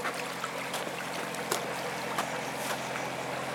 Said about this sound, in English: Another lazy boat, a narrow boat called Jenny. 50 footer, I'd say.